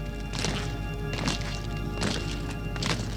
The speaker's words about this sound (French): Et soudain, un bruit de pas. Voilà que les restes du grand homme sont sous la voûte.